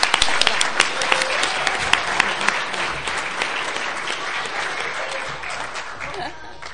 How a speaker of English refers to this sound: So if we could just give a round of applause for everybody who helped out, we really appreciate it.